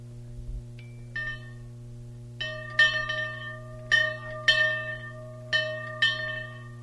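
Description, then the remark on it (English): A dinner bell is struck repeatedly at a Florida folklore gathering to signal that dinner is over, about seven clear metallic rings coming in loose pairs, each ringing out briefly, over a steady low electrical hum with no talking. “And as I was saying when the dinner bell rang, by the way, how about just ringing the bell one or two little tips there?”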